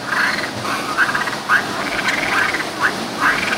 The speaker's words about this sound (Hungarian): Mondta a tavi béka, vagy kacagó béka a Fekete István látogató központban